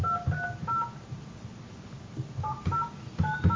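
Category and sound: signal or alarm, phone keypad dialing tones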